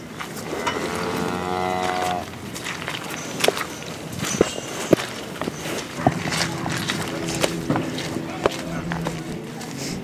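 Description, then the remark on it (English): A cow lets out a long, drawn-out moo, followed by scattered hooves and footsteps on manure-covered ground, with more lowing from a herd of hundreds of cows in the background. “Product of the hundreds of cows to our right.”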